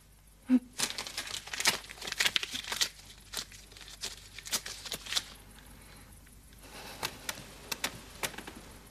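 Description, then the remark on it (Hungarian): Paper crackles and crinkles in irregular bursts, as if being crumpled and handled, with sharp rustling peaks and quieter pauses between them; no one speaks. “Minek hoztad el ezt a papírt?”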